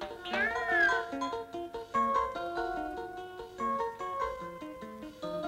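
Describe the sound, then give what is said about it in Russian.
A single drawn-out meow of a kitten named Vasily rises and falls near the start, heard over bright, steady piano-like music with stepping notes that carries on to the end. “И все же для котенка по имени Василий прекраснее Воронежа нет города нигде.”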